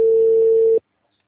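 A telephone ringing: one loud, steady, mid-pitched electronic tone lasting under a second, then cutting off abruptly into silence. No voices are heard.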